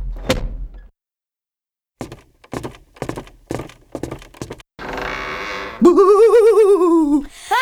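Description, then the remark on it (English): The bathroom door of an old house, where there are mice, shuts with a single solid thud, followed by a pause, a run of quick knocking clicks, a burst of hissing noise, and a loud wavering whooping tone. “Quick, close the door,”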